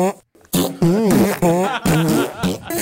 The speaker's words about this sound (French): Voilà. Évidemment, j'ai pas vraiment pété.